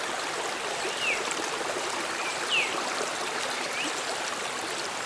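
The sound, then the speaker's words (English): Creek water ripples, splashes and swills steadily over rocks in a rainforest in a constant wash, with a few faint bird chirps cutting briefly through the flow. “Water rippling below, gently splashing and swilling through the rocks in the creek.”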